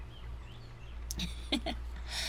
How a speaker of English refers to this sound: Speaking of birds, they're so damn loud. I don't know if you can hear them, but sorry if they're distracting.